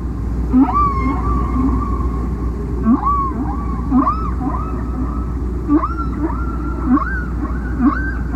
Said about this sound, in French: En étudiant les sons émis par les baleines, en classifiant les unités sonores, ils se rendent compte que les baleines produisent des séquences qui se répètent en boucle, et qu'il s'agit donc d'un chant.